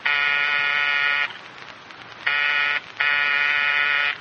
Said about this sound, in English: Oh, go on, go on. Buzz the buzzer.